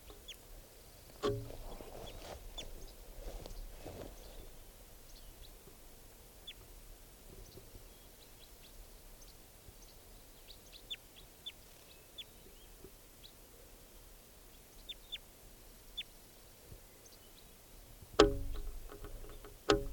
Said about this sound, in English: Wild bird here.